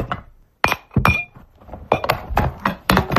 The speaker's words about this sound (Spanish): Es el sonido hasta ahora en muchas casas de toda España, el de los platos, los vasos y los cubiertos que se están poniendo en la mesa antes de la comida de Navidad.